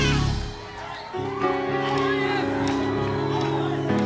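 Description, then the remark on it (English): A crowd claps and shouts together for Jesus over sustained, droning music, with scattered sharp claps and raised voices blending into a loud, continuous wash of noise. “Clap us for Jesus, somebody.”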